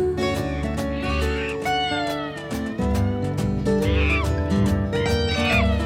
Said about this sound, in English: Monkey says hi to you.